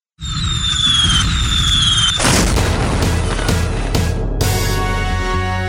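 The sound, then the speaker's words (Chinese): A high whistling rises for about two seconds, then fireworks burst loudly, followed by several more booming explosions with a dense crackling sparkle between them. “对呀，真的很期待呢，我们一起来看烟火吧。”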